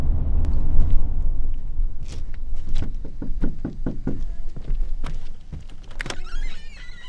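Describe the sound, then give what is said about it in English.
A school liaison knocks firmly on the front door of a student's home, looking for children absent from school, roughly a dozen raps in quick uneven bursts over a low, steady background rumble, with no one speaking or answering. “He's got a few different addresses for them. Nobody answers the door at the first two.”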